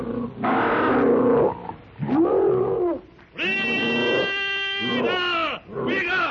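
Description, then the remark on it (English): Two prehistoric monsters leap from a pit and charge with fangs bared. They give loud, harsh shrieks and roars of challenge in several long bursts, the later ones rising into strained, high-pitched screeches with a raspy, buzzing edge, and no talking. “With crooked fangs bared, wicked red eyes gleaming with rage, they shriek their blood-curdling challenge.”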